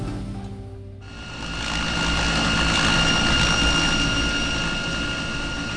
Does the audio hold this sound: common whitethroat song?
no